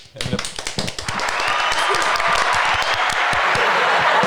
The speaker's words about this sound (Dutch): Alright, nou dat was het verhaal van Stinky. En applaus, en applaus.